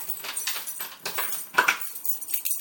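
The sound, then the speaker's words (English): Keys are dropped, jingling and clattering in a series of bright metallic rattles and ending in a clinking settle. No voices are heard. “And drop my keys”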